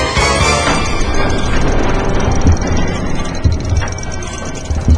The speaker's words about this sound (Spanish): Oigo helicópteros, oigo helicópteros. Ya deben haber venido a rescatarme. O serán niños jugando al Medal of Honor.